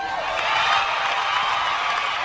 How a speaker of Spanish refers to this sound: Os aplausos parecen que son os mesmos a deberon de cortar e pegar.